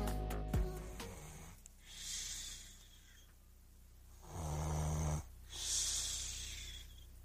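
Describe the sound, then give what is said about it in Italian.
A sleeper with obstructive sleep apnea snores, harsh rattling breaths alternating with hissy wheezing intakes, the rhythm uneven and faltering, the breathing stopping for a few seconds before abruptly restarting. No one speaks. “Ma il respiro, quel gesto che accompagna ogni istante della vita, comincia a incepparsi. Si ferma per pochi secondi, poi riparte di colpo.”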